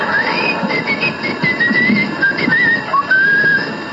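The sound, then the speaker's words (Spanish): A voice whistles a thin, high-pitched tone that wavers slightly and holds for several seconds, steady, imitating ringing in the ears over a low background hum. “Más o menos, y le empieza a chiflar el oído.”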